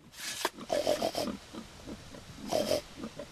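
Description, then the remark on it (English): A family's pigs grunt and snuffle, with a burst of breathy snorts and short squealy oinks, a brief pause of softer snuffling, then another squealing grunt. “He snuffles softly to his family's pigs to greet them.”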